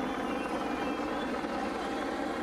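A helicopter drones steadily overhead above a small village of about 40 residents in Ecuador in the evening, its rotor thump and engine roar forming a dense, continuous rumble that stays loud and constant throughout, with no voices.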